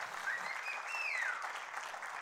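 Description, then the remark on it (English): An audience at a church service applauds the Lord steadily, a dense wash of many hands clapping at an even, moderate level with no one speaking over it. “So let's applaud the Lord because he's in the miracle business.”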